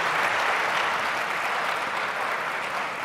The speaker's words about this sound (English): Oh yeah, give Philly a round of applause.